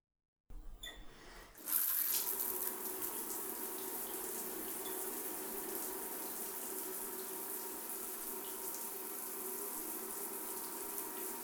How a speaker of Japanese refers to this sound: じゃあ、シャワーで泡流しちゃおうか。